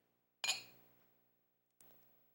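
glasses clinking together

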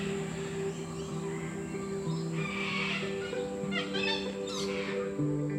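many birds calling

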